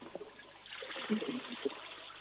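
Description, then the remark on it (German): A toilet flushes, its rushing, hissing water swelling in after a brief pause and continuing steadily, with faint murmurs of voices underneath. “Ja, das war die Klospülung von der Anna.”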